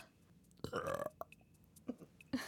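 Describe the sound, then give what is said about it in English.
A loud, drawn-out burp rumbles for about half a second, followed by a few smaller gulping sounds and a short final belch at the end. “I spent all that time trying to burp and then one actually comes out on its own.”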